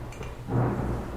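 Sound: approaching rainstorm with thunder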